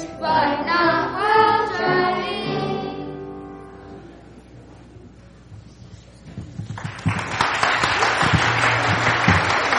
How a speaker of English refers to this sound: Let's give one more round of applause for all of our actors and actresses here.